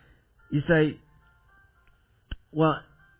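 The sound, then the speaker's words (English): Two short bursts of bright, ringing chimes with rich overtones, separated by a brief pause and a sharp click, sounding alone over faint background hum. “The Lord's chiming in here to tell you, yes, that's exactly what I'm trying to tell you in the Scriptures.”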